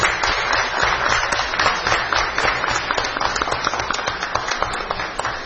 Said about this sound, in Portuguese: Porque muitos desses atletas aí, juntamente com seus professores, infelizmente tem encontrado toda a dificuldade aqui na nossa cidade. Então, inclusive, a gente vai aplaudir, né?